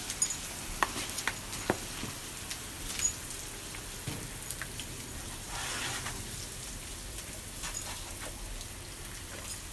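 A steady, soft hiss of water spraying onto grass as the grass is watered, with scattered patters and small splashes throughout, fairly quiet, with no voices.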